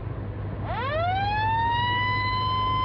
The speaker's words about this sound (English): Come on, hit that siren. Let's get this shit in gear.